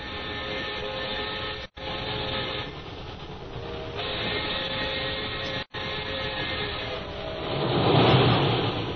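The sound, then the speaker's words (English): A moving train nearing Calcutta rumbles steadily, with a droning mechanical hum and clatter, briefly cutting out twice before swelling louder toward the end. No one speaks. “As Jim and Lil near Calcutta, a messenger boards the train and hands Jim a sealed envelope.”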